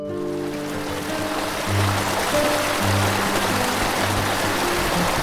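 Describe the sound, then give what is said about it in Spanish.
A river rushes steadily beside a path leading to the canyon and waterfall of Oxochitlán in a Mazatec community, a continuous broad wash of flowing water with a faint low hum running underneath; no one speaks. “Al lado del camino corre el río.”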